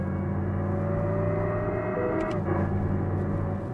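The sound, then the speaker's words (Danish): A steady, high-revving synthetic engine drone from an electric car's simulated engine sound holds its pitch as the accelerator is pressed, simulating very high engine revs, then a brief jolt and dip in tone about two-thirds through marks a simulated gear shift, with the car jolting too, before the hum resumes, with no talking. “Og det her, det er jo altså uden gearskift, det vil sige, det simulerer, at jeg kører med meget, meget høje motoromdrejninger. Nu skifter jeg så gear.”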